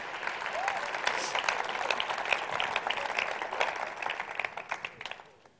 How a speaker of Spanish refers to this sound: Aleluya, dale un aplauso a Él.